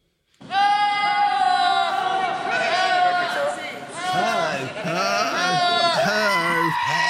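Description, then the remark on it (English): Loud goats bleating for several seconds: overlapping wavering, human-like cries from several animals blending into a continuous noisy chorus. “Do you remember those goats that went who?”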